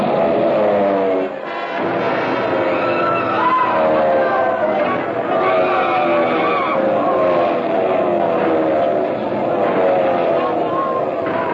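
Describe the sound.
Loud, continuous roar of German warplane engines diving low toward a road and a bus, their droning pitch sliding downward again and again, with indistinct crowd voices buried in the din.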